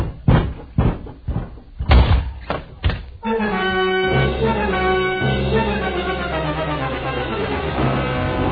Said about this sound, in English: Now, open that door on your right.